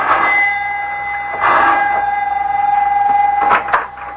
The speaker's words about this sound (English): Both of them are worried now as Mac presses the doorbell at his house in answer to the professor's elated phone call.